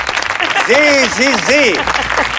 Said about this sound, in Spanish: Un aplauso